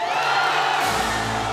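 crowd cheering wildly

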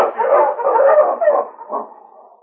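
sled dog barking

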